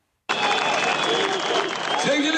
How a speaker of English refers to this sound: Standing atop an open-air bus at Istanbul's international airport, Turkish Prime Minister Recep Tayyip Erdogan told a cheering crowd of more than 10,000 that the violence and brutality must end immediately.